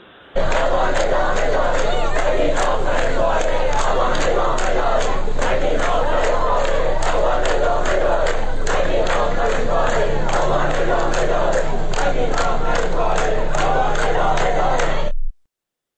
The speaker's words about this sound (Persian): امروز به طور مشخص ما ویدیویی از شیراز داریم، دانشگاه دندونپزشکی که اونجا تحصن کردن، ویدیویی داریم باز از زاهدان که دارن شعار این رو میدن که هی نگین این تموم آبان ادامه داره. بشنویم صدا رو با هم.